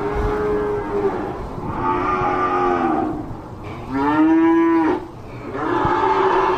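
Several cattle, cows with calves, moo loudly in holding pens at a livestock auction while waiting to be sold, long drawn-out bellows overlapping one after another with a brief lull in between, against a steady background din of a crowded pen.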